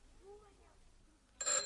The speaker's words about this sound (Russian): Телефон.